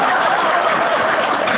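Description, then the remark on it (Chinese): An audience breaks into steady applause, a dense, even wash of many hands clapping at once, holding at a constant loud level throughout with no voices standing out. “鼓掌啊，等了半天都没有”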